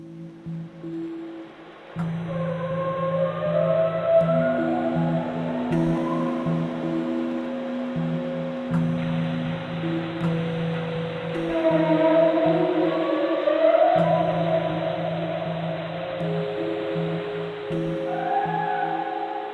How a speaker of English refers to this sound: The call of humpback whales as they swim up the east coast of the South Island. That's a recording that's part of research by scientist Deanna Clement of Nelson's Cawthron Institute.